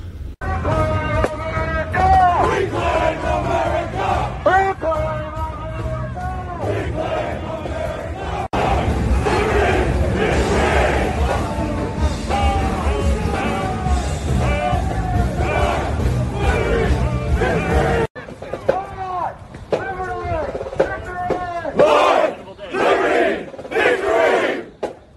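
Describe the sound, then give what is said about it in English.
A large crowd chants and shouts in unison, rhythmic voices rising and falling continuously over a rumbling low backdrop, with a sudden cut to a thinner stretch of scattered shouting near the end. “Like in the United States, you might have seen there was a whole group of apparently white supremacists marching around.”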